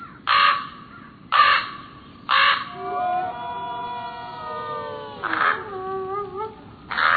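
Harsh, raspy raven calls ring out about five times at uneven intervals, with a long, wavering, tonal howl sustained underneath between the middle calls.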